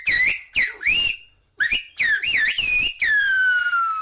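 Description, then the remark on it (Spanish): A phrase in Silbo Gomero, the whistled language of the island of La Gomera, rings out loud: a string of sharp, gliding whistle bursts with rising and falling pitch, ending in a long, slowly falling tone. The whistle spells out the name of a radio program. “esto es Catástrofe Ultravioleta en Silvo Gomero”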